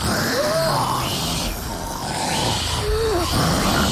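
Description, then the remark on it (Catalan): Loud, rough snoring by a family member in two long, rasping breaths, each carrying a brief whistling rise in pitch, over a steady noisy rumble. “Atenció, un familiar roncant molt fort.”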